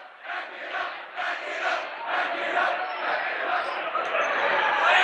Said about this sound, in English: Seven minutes to go here in the ball game, as the Rowdies cheering the fact that the Grand Island student body leaving, and I think the chant was pack it up.